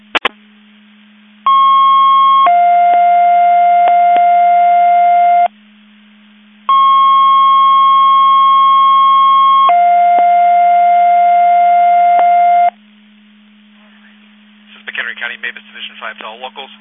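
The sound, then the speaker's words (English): Two-tone radio dispatch alert over a narrow, band-limited channel: a higher steady tone then a lower one, sounded twice with a short gap. Loud and clear, followed by brief garbled radio voices. “Boone County, you were cut off by tones.”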